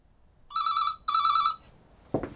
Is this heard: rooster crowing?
no